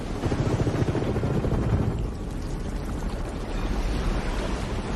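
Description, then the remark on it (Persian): A helicopter roars, its rapid rotor thumping over a heavy, steady low rumble and rushing wind-like noise, loud throughout with no voices. “اون هلیکوپتره؟”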